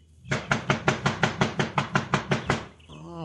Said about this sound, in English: Pancho, not have to knock again. That a very heavy door. It hurt Pancho's knuckles to knock, Cisco.